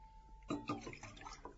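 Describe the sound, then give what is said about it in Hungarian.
A short, quiet splash of fresh spring water being poured into a glass, starting abruptly after a brief hush and trickling on for about a second. “Itt a víz, gegyeskedjék, friss forrásvíz.”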